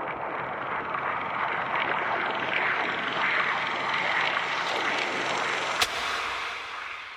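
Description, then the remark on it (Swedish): Steady, hissing static like an old radio, recreating the sound of Sveriges Radio's first broadcast in 1925, with faint crackling and scratching running throughout and one sharp click near the end. No voices. “Så ta och bered er på sprak, skrap, brus och pipiga mansröster, för dagens årtal är...”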